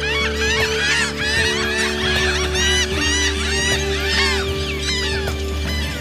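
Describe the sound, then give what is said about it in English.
A dense colony of seabirds, puffins, calls continuously on a protected island about 45 minutes southeast of Bremen, with many harsh, honking cries overlapping over a steady low rumble, loud throughout and with no voices. “Here, on this protected island, almost 50 years after Project Puffin began, the birds are thriving.”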